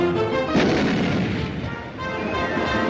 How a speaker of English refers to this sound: Shot out of a cannon. Daffy was? Yes. By another Nazi.